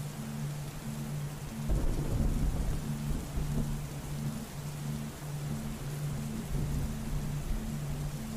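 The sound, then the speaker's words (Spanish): Steady rain hisses throughout while a deep, rolling thunder rumble swells in a couple of seconds in and slowly fades, with fainter low grumbles afterward. No one speaks. “Tormentas que vienen a traer un nuevo ciclo y son necesarias.”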